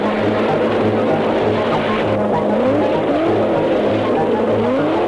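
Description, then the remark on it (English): A car engine roars and strains while its wheels spin and grind over rough, rocky ground by a river as it chases a man through the water, a loud continuous rumble with rising whines and no voices. “Joe drives into the water and pursues the man over the rocks.”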